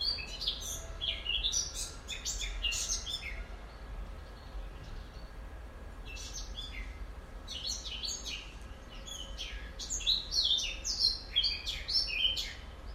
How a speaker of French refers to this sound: Rouge-gorge ? Peut-être. Je vais voir. Il s'est éloigné.